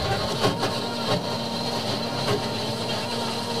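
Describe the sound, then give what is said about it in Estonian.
A BlendTec blender runs continuously, pureeing raw sweet potato for soup with a loud, steady motor whir and a high whine, broken by a few brief surges as the chunks are chopped. “Uskumatu, et ma ju tean, et tegelikult see blender on hästi tugev ja aga ikkagi on nagu nii harjumatu vaadata, et kuidas ta teeb toore bataadi lihtsalt nagu teebki puruks.”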